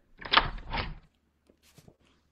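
A front door swings open as a visitor enters, with a rough two-part scrape and rattle lasting under a second, followed by a few faint clicks and footsteps.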